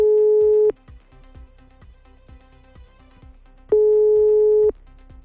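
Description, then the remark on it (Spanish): A telephone busy signal, heard while calling a health centre to book an appointment, sounds two steady, fairly loud beeps, each lasting under a second and separated by a few seconds of quiet line noise with faint clicks. “Venga a esperar y venga a esperar, venga a tonos en algo tan esencial como para pedir cita.”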